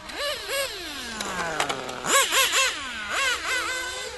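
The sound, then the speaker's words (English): High-pitched electric motors of remote-controlled racing cars whine past in three quick passes, each buzzing tone jumping up then sliding down in pitch, loud with no voices. “Controlled racing cars, sent by John Tudor.”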